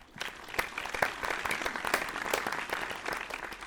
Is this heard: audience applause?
yes